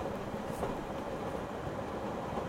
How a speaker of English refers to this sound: This train is approaching the 21st and Birch Street station. For those exiting, please gather your belongings and have a great day.